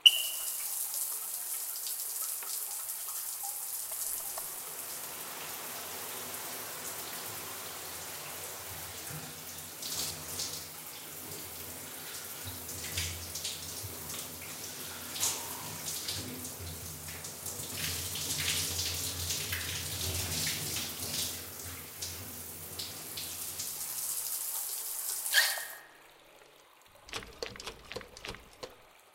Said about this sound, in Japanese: 泡を洗い流しますので、また目をつむってくださいね。